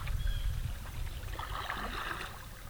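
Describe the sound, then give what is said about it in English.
Paddling on the Skunk River in Iowa: a steady low rumble of moving water with soft splashes and trickles as a paddle dips, continuous, with no voices. “Today we are paddling on the Skunk River with wildlife biologist”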